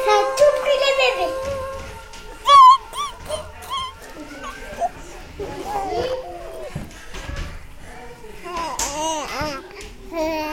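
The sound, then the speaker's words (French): Several babies in a crèche cry, whimper and grunt in overlapping bursts, with high wavering wails and short babbling sounds filling the whole stretch. “Ensuite, le décor. Des cris, des grognements, une crèche”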